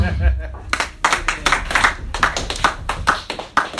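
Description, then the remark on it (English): A brief stretch of speech gives way to audience clapping, a steady, fairly loud run of sharp claps at an even quick rhythm, as if a small crowd applauds together, giving a round of applause for a performer. “I really want you guys to give a round of applause.”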